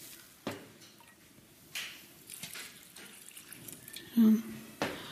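Warm water poured over yeast in a bowl, a low, steady trickle broken by a few brief splashes and clunks of the container.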